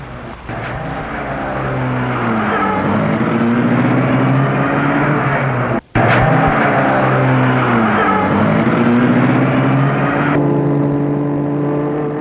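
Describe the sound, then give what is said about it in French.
A black, chauffeur-driven car's engine runs loud, its pitch rising and falling as it starts, revs and pulls away along a small, narrow, dirty, deserted street, with a brief cut in the middle like a gear shift. “Et la voiture démarre.”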